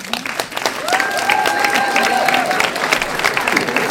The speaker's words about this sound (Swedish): Nej, det var en del stolta applåder, en del ledsna applåder, en del som stolt inte applåder.